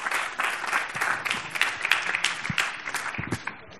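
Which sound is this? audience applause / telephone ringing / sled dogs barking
audience applause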